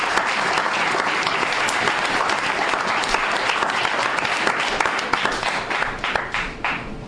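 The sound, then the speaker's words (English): A crowd applauds all the members of the group steadily, a dense wash of many hands clapping at a constant loud level for several seconds before thinning slightly toward the end. “Big round of applause for all our members.”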